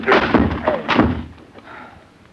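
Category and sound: impact, door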